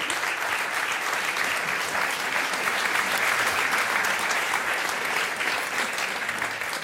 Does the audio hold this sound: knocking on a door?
no